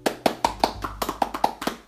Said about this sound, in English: Now, can we get a round of applause for our wonderful guest today?